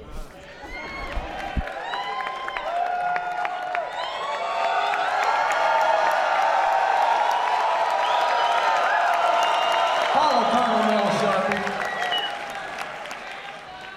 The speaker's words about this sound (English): Sincere, heartfelt, spontaneous burst of applause.